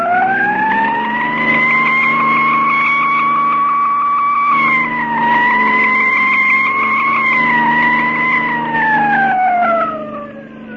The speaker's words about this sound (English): Cops ahead. Get your rods out. Step on that siren, Mark, and drive.